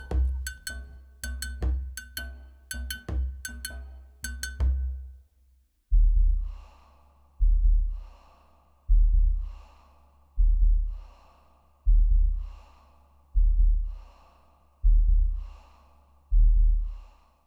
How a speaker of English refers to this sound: Now we are going to hear the heartbeats. Let's get low.